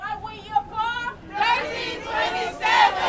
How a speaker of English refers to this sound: Dozens of concession and security employees chanted and waved signs at passing cars outside the airport's terminals.